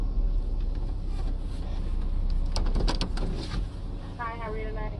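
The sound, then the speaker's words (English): A truck engine idles quietly with a steady, low, even rumble throughout while the occupants order at Taco Bell. A few short clicks and rattles come through midway, and a brief voice is heard toward the end. “Oh, this thing is so quiet, I don't even have to turn it off.”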